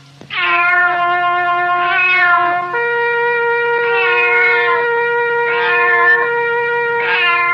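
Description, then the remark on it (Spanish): A trumpet blown badly, squealing through long, wavering notes that bend and slide in pitch, loud, with no talking, rather like a yowling cat. “A ver, sargento, por favor, permítame la trompeta para tocarla ahora yo.”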